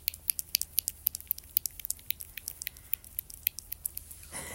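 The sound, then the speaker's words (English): Soft, wet squishing and clicking sounds from a woman masturbating by rubbing her clitoris, picked up by a phone she set down by it, coming in a quick, uneven rhythm of many short bursts, with no one talking. “I'm going to put my phone down near there so you can hear it.”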